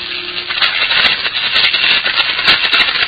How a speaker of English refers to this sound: That's not the spark in the tube you hear. That's the primitively geared induction coil which maintains a steady current.